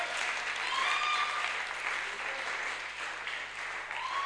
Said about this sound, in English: Are you really getting blessed? Then let's see a clap that goes to the throne of God.